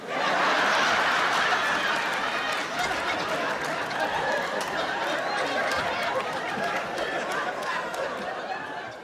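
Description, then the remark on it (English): A crowd of people barking like dogs at a comedy club show after the comedian mentions being from Georgia, overlapping woofs mixed with chatter and scattered laughter, loud and sustained for the whole stretch. “I named a state and you started barking?”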